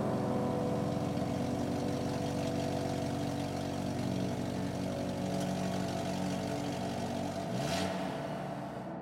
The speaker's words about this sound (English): I kiss my wife goodbye, get into my own car, and head out on my way.